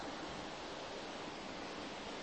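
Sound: flowing river water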